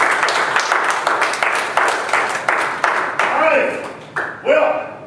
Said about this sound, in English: Give the Lord a hand of applause and he's out.